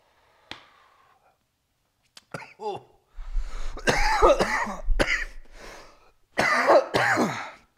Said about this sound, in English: Hope you guys like coughing into your fucking ears. Sorry. Sorry about that.